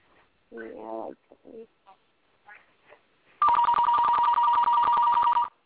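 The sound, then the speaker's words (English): A few brief murmurs of voices, then a loud old-style telephone bell rings for about two seconds, a rapid, metallic trilling clatter with a bright steady tone. “Does the red phone ring loud?”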